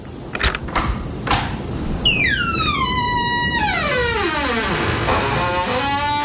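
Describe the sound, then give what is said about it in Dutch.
A few sharp metallic clicks of a lock being turned to unlock a door, then the door swings open with a long, drawn-out creaking squeal that slides downward in pitch, with no talking. “Zo, even de deur van het slot.”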